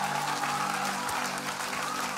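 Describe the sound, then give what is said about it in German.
A church audience applauds for Jesus after a sermon, a steady, dense, even wash of clapping that holds at the same level for a couple of seconds, with a faint sustained tone humming underneath. “Lass uns Jesus nochmal einen riesen Applaus geben.”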